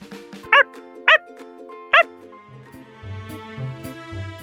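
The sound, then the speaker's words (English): A puppy gives three short, sharp yapping barks, evenly spaced in the first two seconds. Soft background music plays throughout and grows fuller after the barking stops. “I sure do. I have a puppy. Shake paws, Max.”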